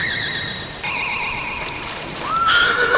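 A horse whinnies in a series of shaky, quavering neighs over a steady watery background, followed by a rising whistling glide at the end.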